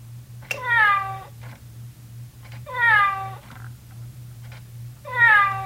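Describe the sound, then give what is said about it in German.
A ticking clock sounds three o'clock with three recorded cat meows instead of a bell, evenly spaced and clear, over a steady low hum; no bell chimes. “Bei jeder vollen Stunde schlägt nicht eine Glocke, sondern man hört ein Tier.”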